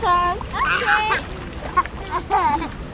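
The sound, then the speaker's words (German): Children's high voices call and shout over a steady wash of splashing water as kids play in a children's pool in Kenya, with bursts of sloshing. “Es gibt auch einen Kinderpool. An dessen Rand hat es sich Mercy Rono bequem gemacht. Während ihre Kinder noch toben”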